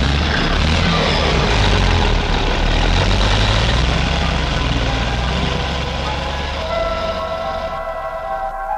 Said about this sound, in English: After a few of those, the big shells come out. Loading 45 tons of us into each big truck, taking us to the crusher at the mine.